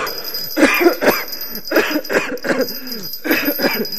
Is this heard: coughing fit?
yes